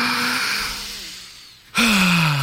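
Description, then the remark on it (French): A long, deep breath drawn in, fading quietly, then a sudden loud, voiced release like a sigh, the first of several deep breaths taken together in a breathing exercise. No words are spoken. “On prend une grande respiration.”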